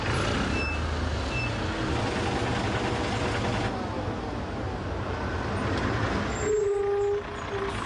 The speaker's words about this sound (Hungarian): Az ünnep egyetlen kellemetlen mellékhatása az óriási, napok óta tartó dugó. Az alsó rakpartokat már napokkal ezelőtt lezárták, a belváros gyakorlatilag már azóta járhatatlan.